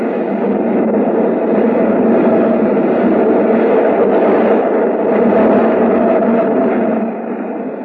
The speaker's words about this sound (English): What's that? It's the L. Goes right past the window. Shakes the whole building.